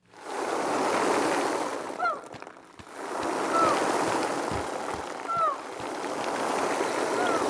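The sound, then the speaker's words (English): Steady, rushing surf of the sea fills the scene, a continuous wash of waves swelling and receding on a shore, with a few faint, high chirping calls breaking through now and then. “The sea. The sea. The sea.”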